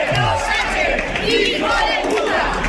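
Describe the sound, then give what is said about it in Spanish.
A large protest crowd shouts in loud unison, a dense roar of many voices chanting the cry "invasión" and yelling together without pause, interrupting a manifesto read by a Partido Popular mayor, with a steady rumble underneath. “Es un grito, un cántico que se ha repetido en buena parte del país.”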